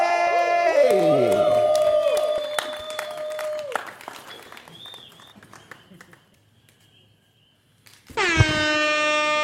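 crowd, audience applause and cheering

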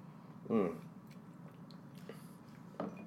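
food or drink, sipping rum

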